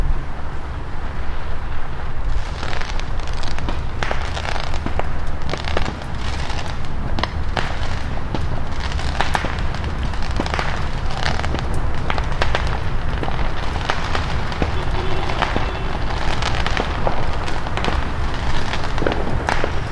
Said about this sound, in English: Still fireworks around, but I think it's kind of winding down to some extent now.